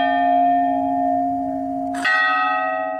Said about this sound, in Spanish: Me acuerdo que desde chiquita mi abuelita nos decía como que ya viene tu abuelito, ya vienen tus tíos, ya están tocando las campanas. Y la gente todos los días a las 8 de la noche, cuando empiezan a tocar las campanas, sale con su sahumerio a recibir